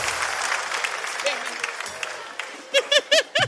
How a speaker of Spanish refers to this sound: Un fuerte aplauso para mí